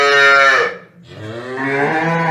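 A cow moos loudly, a long, rich lowing call that dips briefly and then swells into a second drawn-out moo, with no talking.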